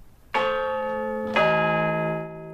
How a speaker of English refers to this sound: And usually at this time we bring you the chimes of Big Ben, but as you probably know, it's out of action. So instead, here are the chimes of Big Tom from St Paul's Cathedral.